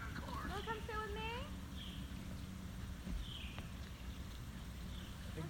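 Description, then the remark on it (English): A few birds call in a short burst of chirping, then sparser calls follow, over a steady outdoor background with low rumbling and soft footsteps. “Hi, birds. How are you? Where are you going, yeah.”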